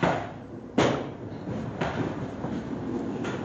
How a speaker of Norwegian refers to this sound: Ja, her går malmen inn i en stor knuser, tygger. Ja, de må fortelle oss litt om den tyggeren da. Ja, den virker ved hjelp av to kraftige kjever som altså knuser gosset ned til 3 tomt stykker.